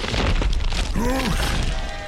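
An ancient stone bridge collapses as Irish warriors use horses and ropes to pull out its keystones: a loud, sustained rumbling crash of tumbling masonry and heavy thuds, with a brief rising-and-falling tonal cry cutting through the roar partway in.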